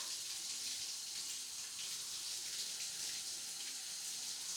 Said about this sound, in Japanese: お湯から水に変えてみるよ。冷たい。